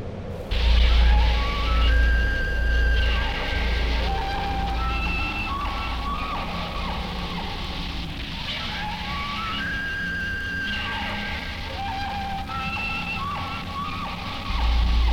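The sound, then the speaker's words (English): A bull elk bugles a challenge twice in crisp fall air, each call a loud, high whistling glide that rises and falls with harmonics, carried over a steady low rumble with no voices present. “Can you recognize the bull elk bugling his challenge in the crisp fall air?”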